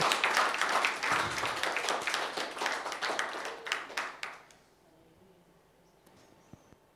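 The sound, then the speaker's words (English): An audience claps hands together to God during a sermon, in a dense, steady burst for about four seconds, then the applause fades quickly into near quiet with a few stray claps. “Give a clap to God.”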